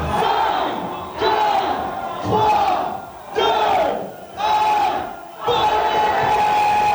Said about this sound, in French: Des cris de joie un peu partout sur les baies. Les fêtards se font la bise, appellent leurs proches et se souhaitent de beaux vœux pour l'année à venir.